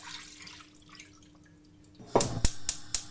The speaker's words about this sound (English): And now what I'm going to do is I'm going to pour all this liquid back into the pan.